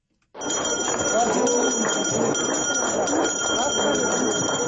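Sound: school bell ringing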